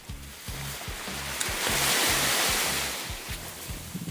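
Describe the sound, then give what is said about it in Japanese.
Ocean surf on Awaji Island in Hyogo Prefecture, Japan, rushes in with a broad, hissing wash that swells to a peak and then recedes under a blue sky and bright sun, while a steady rhythmic low thumping pulses quietly underneath. No one speaks. “この波音が聞こえますか？”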